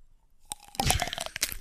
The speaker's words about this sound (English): All right, I'm dipping it in the oil and now coating it in salt and pepper. Very nice. All right, let's hear this crunch.